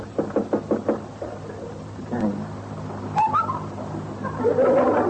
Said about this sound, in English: Let's go in and get it over with. All right. Knock on his door. He'll probably still be in bed.